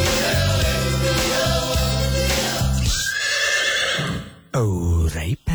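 A horse lets out a loud whinny, a long shuddering neigh with pulsing vibrato that trails off, then a brief, higher-pitched second cry near the end. No one speaks.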